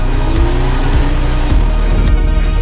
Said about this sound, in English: And hearing the rev limiter for the first time.